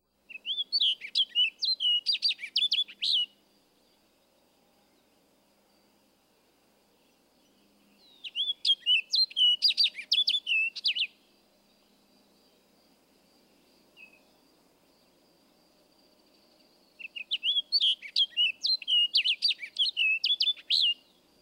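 An orchard oriole sings three bursts of rapid, varied whistled phrases, each lasting about three seconds and separated by several seconds of quiet, with a down-slurred phrase toward the end of the song. The song is clear, with no talking.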